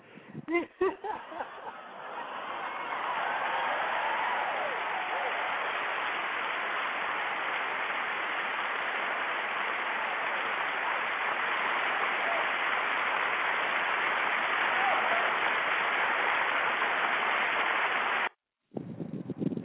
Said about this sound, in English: Got I'm clapping for you.